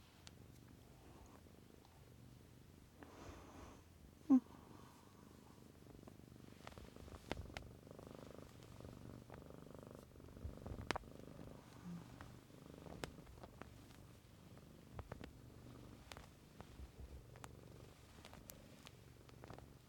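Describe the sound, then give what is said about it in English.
A kitten purrs in a steady low rumble, with soft cooing, pigeon-like trills woven through and a few small clicks and taps. No one speaks. “I love the pigeon noise.”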